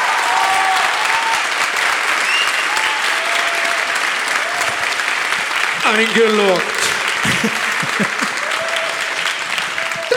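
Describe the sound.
Steady, dense applause from an audience voting for the first of three questions, one about Mallorca, fills the whole stretch, a continuous rush of clapping that stays loud throughout, with a few voices and a brief spoken word surfacing over it.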